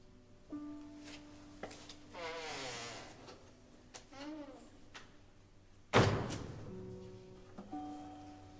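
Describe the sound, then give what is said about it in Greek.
A door slams shut with a single loud thud as someone leaves, preceded by shuffling movement and faint murmuring voices, then quiet as the sound dies away. “Ήταν να μην περάσεις την πόρτα. Τώρα που την πέρασες, δεν ξαναγυρνάς.”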